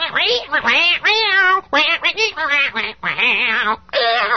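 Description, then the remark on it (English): A person's voice imitates a cat being strangled: a run of loud, strained, squawking yowls in choppy bursts, with no actual words. “That's what a cat would sound like being strangled.”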